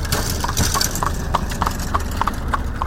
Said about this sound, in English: We're standing on the side of a county road that has a long line of large divots spanning the entire block. And when a car or buggy goes over that broken pavement, it sounds just as bad as it feels.